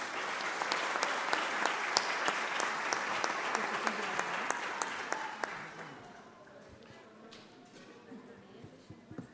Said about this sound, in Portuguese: O que seria da comunidade surda sem os intérpretes, sem os professores? Estão aqui, eu quero uma salva de palmas para todos vocês.